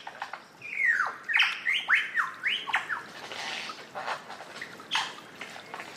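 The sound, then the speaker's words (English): Birds squawk and sing in a lively run of sweeping, warbling calls with harsh squawks, fairly loud, fading into scattered chirps with a soft rushing background and no talking. “they would have marvelled at the thrills, squawks, warbles, shrieks, squeaks, hoots and whistles that awaited them.”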